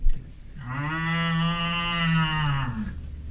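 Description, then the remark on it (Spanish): A single long, drawn-out cow moo, loud, rising in and holding a steady droning tone for about two seconds before fading away. “Es verdad lo que digo, vaca.”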